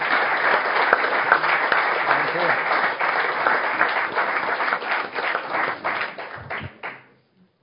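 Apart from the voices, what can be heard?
audience applause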